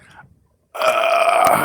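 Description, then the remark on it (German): A single loud, drawn-out burp from a person sitting in a car erupts after a brief quiet pause, resonant, lasting about a second with a rough, throaty rumble. No one speaks. “ich habe einen Rülps an Hals gehabt, tut mir leid.”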